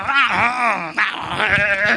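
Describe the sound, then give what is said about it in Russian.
A human voice imitates a bleating sheep, sustaining a wavering, quavering "baa" for about two seconds with a brief break near the middle. It is fairly loud, with no other sounds. “Что, как реагируют овцы на то, когда волк нападает на пастуха?”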